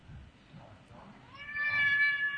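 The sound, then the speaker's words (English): A cat gives one loud, drawn-out meow in the second half, rising in volume. A soft low rumble of background noise comes before it. “Needy cat.”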